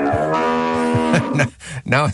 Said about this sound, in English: While discussing how people gain weight on cruises with some friends, I used your patented cow noise.